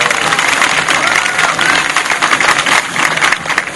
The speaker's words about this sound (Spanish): Un aplauso. También un aplauso para Lincoln Martí y todos los estudiantes que están aquí con nosotros.